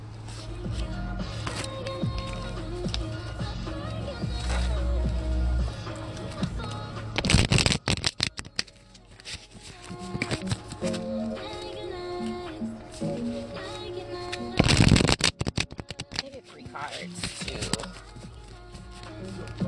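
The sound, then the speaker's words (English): A Hermetic tarot card deck is shuffled in two quick, crisp riffling bursts, fairly loud, over steady background music with no one speaking. “So I'm going to shuffle that, and I guess we'll have some music playing in the background while I do that.”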